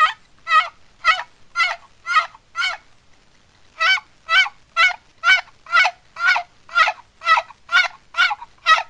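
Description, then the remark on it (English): An old turkey box call sounds a run of slow, drawn-out gobbler yelps, six notes, a short pause, then about ten more in a steady, unhurried rhythm, loud with no talking. “The gobbler yelp, I got an old box call here. Just lengthen your yelp.”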